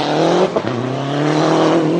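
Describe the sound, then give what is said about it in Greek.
A loud Lancia Delta race car engine, a four-wheel-drive hatchback, roars continuously with a rich buzzing drone, briefly dipping as if shifting gear before climbing back to full revs. No voices are heard. “Τι να πει κανείς για αυτό το αυτοκίνητο. Αυτό που σου έρχεται στο μυαλό είναι οι αγώνες.”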